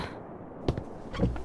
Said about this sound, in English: A knock?